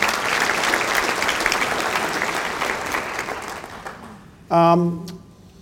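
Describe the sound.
An audience of citizens gathered to support a radio station gives themselves a round of applause, a dense, steady wash of clapping that gradually fades over about four seconds, followed by a brief burst of a voice beginning to speak.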